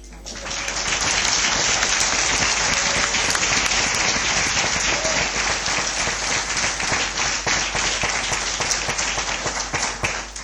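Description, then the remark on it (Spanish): Sustained applause from a large crowd at an event in Totana, given by those present to the people being honoured, dense overlapping claps at steady volume for about ten seconds, loud with no speech over it. “Me van a permitir, no sé si me oye, me van a permitir que ese aplauso lo vamos a hacer los que estamos aquí hacia vosotros, porque el mérito es vuestro.”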